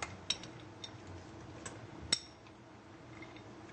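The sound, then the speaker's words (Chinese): Cashew nuts drop into a cooking pot already holding cut pumpkin and sweet potato, in a few scattered, light clinks and taps against metal, quiet, with a faint background hum and no talking. “再加一些腰果。”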